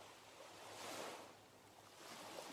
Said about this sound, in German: Du hörst das Rauschen der Wellen, die ganz sanft an den Strand spülen.